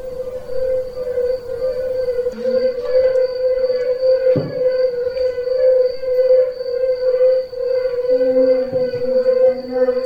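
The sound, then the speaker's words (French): A yellow-bellied toad chorus of soft, mellow, low-pitched hooting notes that blend into a steady, sustained tone, with a few brief deeper knocks and no talking. “Et le bruit qu'il fait, vous allez voir... Son nom, c'est le sonneur à ventre jaune.”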